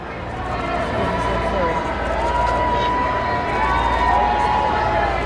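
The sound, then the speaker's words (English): A large outdoor crowd at a church cheers, boos and chants at once as King Charles pulls up, many voices merging into a loud, steady roar that holds for the whole stretch without letting up. “As King Charles pulled up to the church, he was met with a wall of cheers, but also booing and chanting.”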